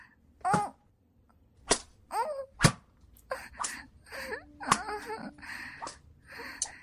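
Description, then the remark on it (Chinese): Several sharp, loud whip cracks land at uneven intervals as a man lashes a person with a whip, mixed with the person's pained moans, whimpers and gasping cries. “他在用鞭子抽我，可恶，太过分了！”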